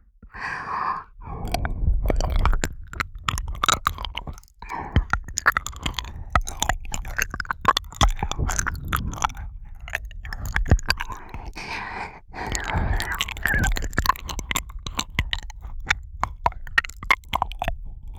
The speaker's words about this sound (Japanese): こっちはレロレロしてあげるよ。